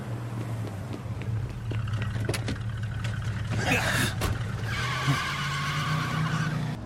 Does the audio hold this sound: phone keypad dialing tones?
no